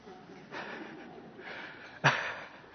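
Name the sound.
coughing fit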